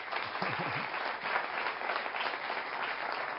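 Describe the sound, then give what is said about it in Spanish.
An audience at a talk applauds steadily, a dense wash of many hands clapping at an even level throughout, with a brief low voice murmuring near the start. “Muchísimas gracias, les voy a pedir otro aplauso para...”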